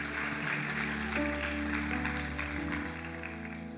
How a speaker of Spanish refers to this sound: Démosles un aplauso, un aplauso.